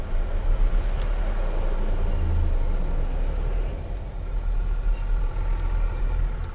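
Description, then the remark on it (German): A car engine rumbles steadily, low and echoing, as the car drives down the ramps of a seven-level museum parking garage, with tire and road noise filling the sound throughout and no voices. “Und jetzt müssen wir alle 7 Etagen wieder runter, um ja wieder rauszukommen.”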